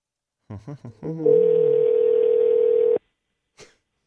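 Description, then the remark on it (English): A few quick chirps lead into a steady electronic phone tone held for nearly two seconds, then it cuts off, followed by a soft click, like a call being placed and connecting. “All right, we're going to get her on the phone here. Hopefully she answers.”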